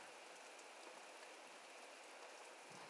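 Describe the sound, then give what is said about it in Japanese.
Sudden steady rain, starting after a clear sunny day, patters densely on a tent's fabric, a constant hiss of countless drops with no pauses and no voices. “うわ、急に降ってきたけど、このテント大丈夫なのかな。”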